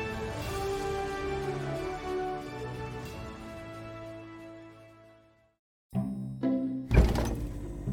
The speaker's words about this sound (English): I know you're upset, but please don't slam the fridge door like that.